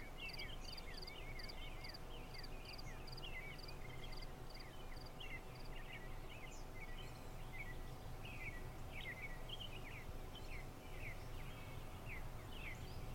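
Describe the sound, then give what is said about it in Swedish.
Many small birds chirp and twitter steadily in a sunny meadow over a constant outdoor hiss, with a high, rapid insect-like trill repeating early on; no one speaks. “Här på denna ängen finns ingen stress. Bara du och jag, fåglarna och solen.”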